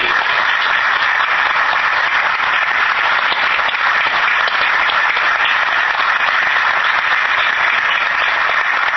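Sustained applause from an audience, a dense, steady patter of many hands clapping at an even loudness for the whole stretch, with no voices standing out.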